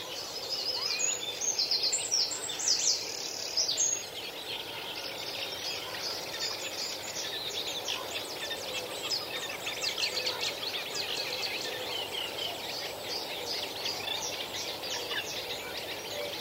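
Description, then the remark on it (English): A reed warbler sings a steady, rhythmic chatter of repeated scratchy notes, continuous, over a soft hiss of outdoor ambience with no talking. “Let's go back to listen to the R or the rhythm of the reed warbler.”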